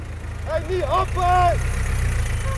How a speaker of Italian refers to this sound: La macchina le passa davanti.